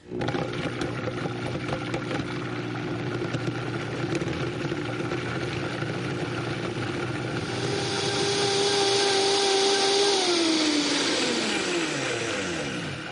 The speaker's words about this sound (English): Okay, the Vitamix is really strong. I'm going to put it on. I'm going to put it on a little bit at a time, and then I'm going to kick the horses in. So hold on.